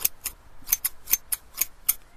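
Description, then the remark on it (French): Scissors snipping, a run of about eight crisp, sharp clicks in quick, slightly uneven succession, fairly quiet with no voices. “Des ciseaux? Non. Le bruit des ciseaux, c'est ça.”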